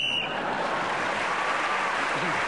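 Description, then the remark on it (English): A short, high whistle blast, blown to end a speaker's turn, sounds at the very start, then quickly gives way to steady, loud applause from an audience that continues to the end. “Ross Noble was then speaking as the whistle went, gained that extra point.”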